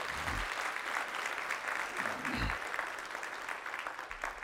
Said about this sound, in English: If … blessed your souls, why don't you let them know by giving the Lord a clap offering?